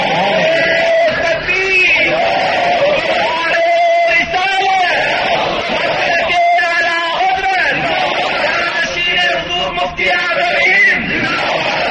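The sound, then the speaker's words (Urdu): A large crowd chants slogans loudly and continuously, many voices shouting together in rising, rhythmic bursts with yells and whoops throughout the twelve seconds. “نعرے لگاؤ گے تو بات نہیں ہوگی. اب آپ نعرے لگا چکے, اب بات سنیے.”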